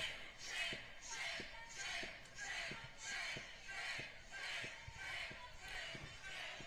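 A large protesting crowd in Minneapolis chants "shame" over and over as the mayor walks through it, in a steady, driving rhythm, about ten loud, massed shouts with a dull thump marking each beat.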